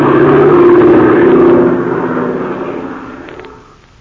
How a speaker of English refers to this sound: Circling over the unequal sky battle is the bimotored silver-winged cabin plane with Ivan Shark at the controls.